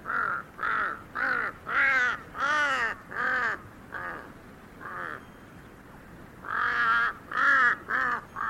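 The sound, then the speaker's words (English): A huge Tibetan crow hopping across a high field gives a rapid series of harsh, nasal caws in uneven bursts, pausing briefly before another loud volley; the calls are clear with no talking. “I remember being startled by the bizarre sounds made by a huge Tibetan crow hopping across a high field.”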